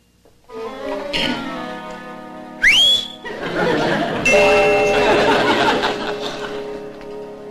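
A person whistles a short, rising note that swoops upward, set against a busy background of murmuring voices and steady tonal hum at moderate loudness.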